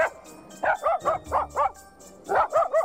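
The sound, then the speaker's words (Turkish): The new neighbors' dog barks loudly and rapidly, a quick run of sharp yips in two bursts with a brief pause between them. “Köpekleri gürültüyle havlarken çocuklar da Eren'le Beyza'ya seslendi.”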